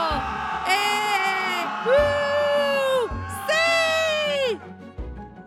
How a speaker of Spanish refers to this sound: Todos en el ejército gritaron emocionados. ¡Bravo!